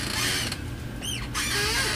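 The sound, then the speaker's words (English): A chair creaks and squeaks, with a couple of short high-pitched, slightly warbling chirps rising over a steady background hum, fairly faint and with no talking. “Your chair? Yeah, but it's not as squeaky as it there was.”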